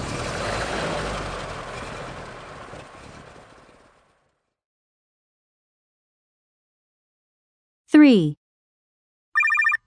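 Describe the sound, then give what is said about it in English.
A fishing boat's engine is started and rumbles and churns loudly, then gradually fades away over a few seconds. After a silence, a short descending whistle-like sweep and a brief buzzing tone follow. “Quick, start the engine! Let's get back to dry land!”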